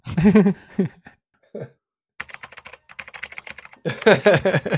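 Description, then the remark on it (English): A quick burst of crisp computer keyboard typing while someone researches surgeries, rapid irregular key clicks lasting over a second, framed by short bursts of voiced vocal sounds before and after. “Keyboard warrior over here.”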